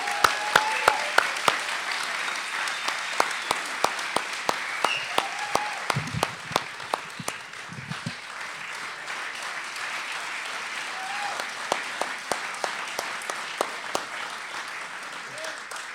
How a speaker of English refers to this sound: give them a round of applause for all the work it takes to make Coyote Tales, Coyote Tales.